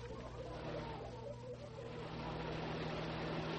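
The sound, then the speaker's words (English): A car engine hums steadily with a low drone and broad road rumble, swelling gradually louder as the vehicle draws nearer. “Hey, there comes a car.”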